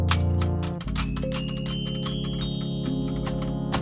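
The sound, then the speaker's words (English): Small metal bells inside a tin toy ring in a rapid, continuous flurry of bright tinkling strikes as pressed keys raise them to hit a spindle, over a steady low mechanical hum, loud, with no talking. “As we press down on the keys, the bells are raised up so that they hit the spindle.”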